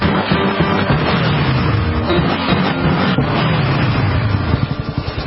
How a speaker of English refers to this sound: That symphony of engines roaring in perfect harmony. It's a feeling that would be impossible to recreate on the radio.